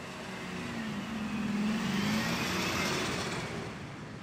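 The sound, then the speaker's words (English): A car drives past on a street, its engine hum and tire noise swelling as it nears and fading as it moves away, with no voices. “Yeah, and as soon as our motorist overlords arrive, all of the people on the street right here are going to have to clear the way.”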